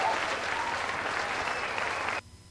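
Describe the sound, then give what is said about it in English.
A large crowd applauds in a dense, steady roar of clapping with some cheering mixed in, loud and sustained for about two seconds before cutting off abruptly into near silence. “Wow, our crowd's fired up tonight.”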